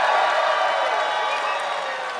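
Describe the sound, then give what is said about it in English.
An audience cheers for preferring a great boss who is a bad person, in a dense, sustained roar of mixed voices and whoops, holding steady for about two seconds before easing off slightly at the end. “First, we'll do cheer for great boss, bad person.”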